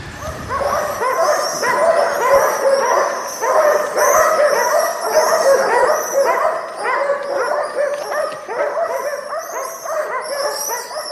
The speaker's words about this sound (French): Vous voilà sur la scène, à peine le temps de vous présenter que des chiens se jettent sur vous pour vous mordre dans un concert d'aboiement.